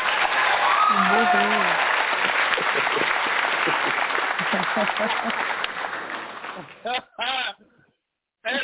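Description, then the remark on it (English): A burst of sustained applause and cheering from a crowd, with some whoops, for special guest a singer of the band a band, fades out after about six seconds, leaving brief bits of a voice talking. “let's give … a round of applause.”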